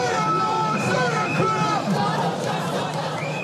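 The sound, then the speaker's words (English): A large crowd of tens of thousands of protesters in London, demonstrating against U.S. President Donald Trump's visit, shouts and chants together in a dense, continuous roar of many overlapping voices, with rising and falling yells sustained at a steady, loud level throughout. “The president was heralded by military bands as he arrived at Windsor, a more welcoming sight than the tens of thousands of people protesting his visit to London.”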